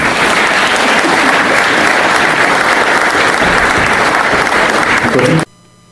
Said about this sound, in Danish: Så tak, skal vi klappe endnu en gang.